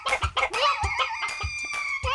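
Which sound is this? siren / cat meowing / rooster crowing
rooster crowing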